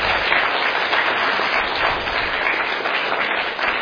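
A church audience at RMC applauds steadily to thank its faithful members: dense overlapping claps form a loud, continuous wash of sound, with no voices standing out.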